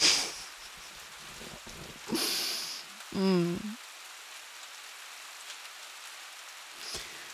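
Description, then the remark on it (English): Steady rain patters on a hard surface in a continuous hiss throughout, briefly interrupted by a short burst of noise and a brief voiced groan from someone. “Why rain? Seriously?”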